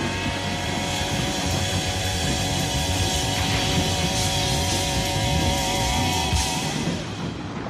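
A thunderstorm rumbles in a steady, dense roar, with sustained musical tones lingering over it and a few brief brighter swells near the end. No one speaks.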